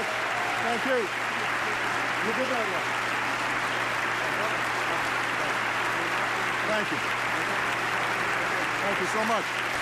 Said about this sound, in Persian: به جمهوری ایالات متحده مورد تشویق حضار هستن، همگی ایستاده هستن. برای جمهورشون خواهش میکنه که بشینن.